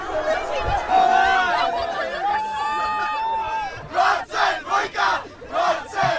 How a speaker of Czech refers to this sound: U tramvajových dveří se strhla bitva o místa, masa lidí se srážela sama se sebou, cesta do tramvaje je složitá, ale nakonec jsme se dovnitř dostali.